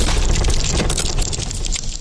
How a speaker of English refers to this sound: Death by pit. That is a very interesting pit death sound. I'm not sure if I like it.